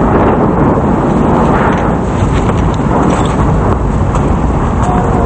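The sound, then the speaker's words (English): A loud, continuous blast of roaring, crackling noise from cars exploding on a street, dense and heavy throughout with a deep rumble underneath and no voices. “They dive forward onto the street as the cars explode.”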